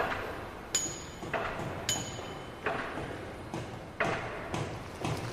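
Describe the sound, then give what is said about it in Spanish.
Repeated metallic strikes of a pick chipping at stone in a construction scene at the Ermita del Consuelo in Ciempozuelos, about eight sharp impacts at an uneven, working rhythm, each with a bright ringing edge over a steady background hiss. “Te veo picando, ¿eh? Picando. Y construyendo.”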